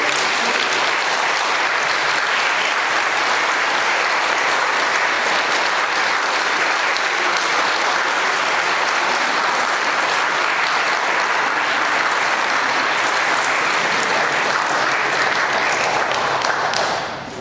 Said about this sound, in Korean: 감사의 표시로 신부님께 꽃다발 좀 드리겠습니다. 박수로 환영해 주시기 바랍니다.